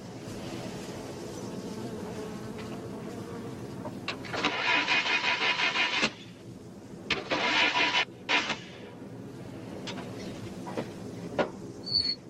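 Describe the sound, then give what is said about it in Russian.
A car engine cranks over and fails to catch, in two separate attempts: a longer whirring grind, a brief pause, then a shorter stuttering try before it stops, with a quiet background. “Значит, не в порядке, коль машина не едет.”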